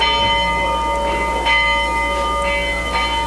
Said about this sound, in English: Not sure what that bell is for, but it sounds interesting.